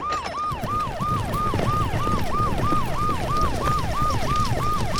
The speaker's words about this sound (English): Okay, Rabbi, I turn on the siren.